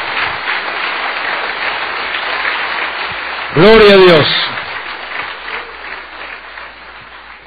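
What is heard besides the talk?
audience applause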